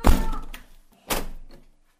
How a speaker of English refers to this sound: Closing our door with vigour. Close it then.